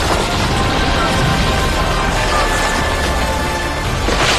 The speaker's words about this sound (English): While within, the giants bellowed as the roof and walls fell down on them.